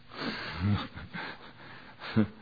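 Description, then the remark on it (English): A hushed room where soft, breathy inhales and exhales of people drift in and out, punctuated by a couple of brief sniffs or low vocal snorts, with no clear talking. “All you can hear is people breathing.”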